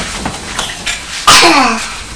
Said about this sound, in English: …, you sneezed